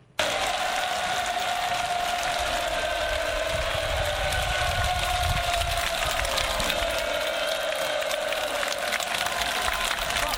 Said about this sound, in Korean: 함성 소리 때문에 잘 들릴 수 있는지 모르겠지만 현장에서 직접 녹음한 음성입니다. 들려드리겠습니다.